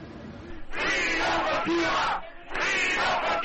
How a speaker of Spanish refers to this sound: Miles de cubanos protestaban este lunes frente a la Casa Blanca. Gritaban consignas respaldados por legisladores republicanos.